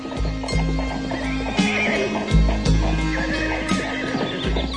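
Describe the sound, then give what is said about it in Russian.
A horse gives short, urgent, anxious yet affectionate neighs and whinnies, calling repeatedly, with faint hoof clip-clops in the background and no talking. “Но вот он слышит короткое, беспокойное, ласковое и призывающее ржание, которое так ему знакомо, что он всегда узнает его издали среди тысячи других голосов.”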